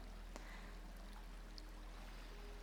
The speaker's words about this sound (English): First, we're just gonna start by dabbing your face with some cool rose water.